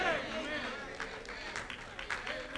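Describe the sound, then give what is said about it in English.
Two people give a few scattered hand claps, sounding faintly and irregularly beneath a steady flow of talking voices. “Thank you for the two people clapping over here.”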